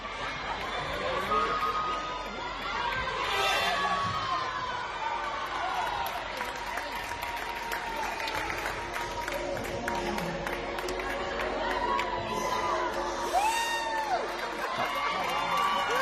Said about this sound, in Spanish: Bueno, aplausos, emoción, porque en ese pabellón los padres de las niñas, uniformados, ellos, no las niñas, con un aro de gimnasia rítmica, realizaron una coreografía con esta música que está sonando.